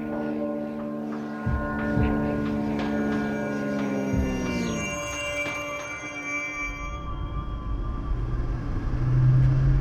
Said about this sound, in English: But back on the surface, there are cars, and those cars drive fast on the highways that snake between the hills.